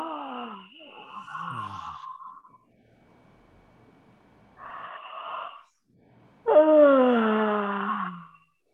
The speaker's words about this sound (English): This time, yawn it out. Oh. Oh. Breathe in and yawn out again. Oh.